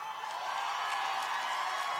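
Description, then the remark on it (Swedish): A crowd cheers and whoops as two performers behind a piano begin to play, a steady, dense roar of many voices with sharper shouts popping out now and then, loud and continuous throughout. “Lyssna på publiken.”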